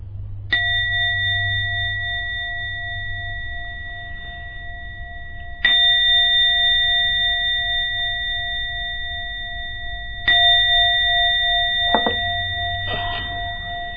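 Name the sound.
bell rung three times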